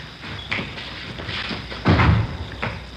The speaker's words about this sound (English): Here, I'll get the door. All right.